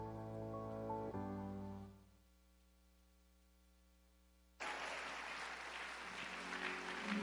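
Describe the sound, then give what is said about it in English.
A held musical chord fades to a quiet drone, then a large crowd bursts into loud, steady applause for Jesus that continues to the end. “If you are clapping for Jesus, can you please lift those hands?”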